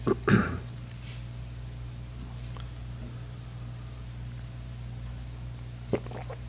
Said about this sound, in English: I'm getting over a little bit of a cold, and that's why I'm clearing my throat. Also, living in Sacramento, I have continual allergies.